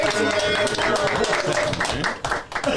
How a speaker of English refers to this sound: They doing a great service for the community, and we got them here on the culture. Clap it up for the boot girls, man.